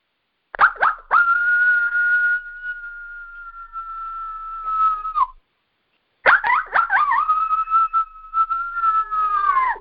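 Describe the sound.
A coyote howl blown on a game call: two long, steady, high-pitched wails, each opening with quick choppy yips, separated by a short silence.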